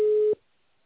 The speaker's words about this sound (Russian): Продиктуйте свое сообщение после звукового сигнала.